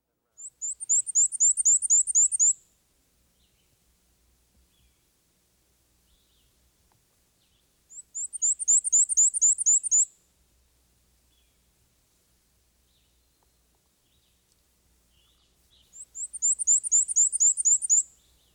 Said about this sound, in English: Our first bird is the black and white warbler. He's the bird whose high-pitched song sounds like a squeaky wheel turning round and round.